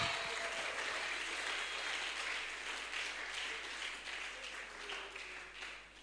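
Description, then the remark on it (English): A church audience breaks into dense, steady applause, many hands clapping at once in a continuous wash that holds for several seconds, then thins slightly toward the end. No one speaks over it. “Let's clap for that.”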